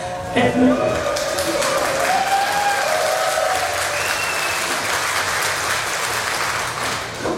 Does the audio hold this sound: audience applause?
yes